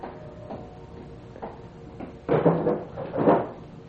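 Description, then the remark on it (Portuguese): A bedside table drawer in the housekeeper's room is pulled open: a few light wooden knocks, then two louder rattling, scraping slides. No one speaks. “Há uma gaveta aberta na mesa de cabeceira.”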